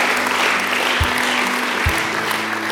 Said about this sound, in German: Komm mal, lass mal Jesus einen mächtigen Applaus dafür geben.